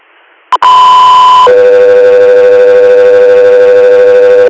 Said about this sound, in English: Country Air, standby for tones.